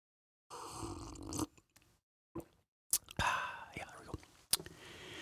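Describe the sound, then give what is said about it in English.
Slurping sips of hot chai tea, two longer airy draws separated by soft clicks and a swallow, with a sharp lip smack near the end. No one speaks. “Let me take a sip of my chai here while you get a blank piece of paper.”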